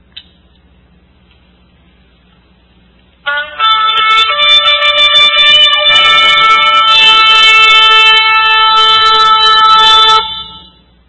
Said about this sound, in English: So let's hear another trumpet sound for the third trumpet.